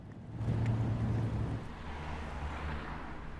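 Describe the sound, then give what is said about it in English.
A bus's engine idles with a steady, deep rumble and a low droning hum as a man climbs off, loudest in the first second and a half, then holding at a constant level with no voices. “Another man climbs off the bus and greets those waiting.”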